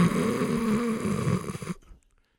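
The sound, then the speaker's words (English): A voice imitates a loud, drawn-out snore, a single rough, rattling breath lasting under two seconds, then abrupt silence. “The professor's lecture was drowned out by your own snoring on the recording anyway.”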